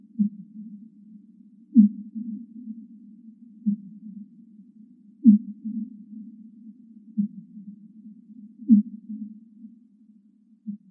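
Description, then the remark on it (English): Deep underwater whale calls pulse low and steadily, roughly every two seconds, each sharp onset followed by a smeared, echoing rumble that fills the gaps, echoes reflected mostly in the ocean but also from interfaces beneath the ocean bottom, with no voices present. “And those echoes are the important things for my research because those echoes are mostly in the ocean, but also actually reflected from the interfaces beneath the ocean bottom.”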